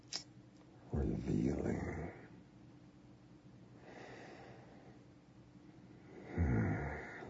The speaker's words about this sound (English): her gasp.